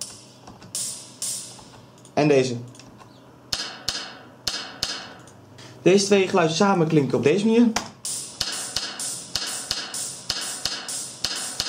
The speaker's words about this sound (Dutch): Het blikje heb ik opgesplitst in twee geluidjes. Namelijk deze twee. Deze.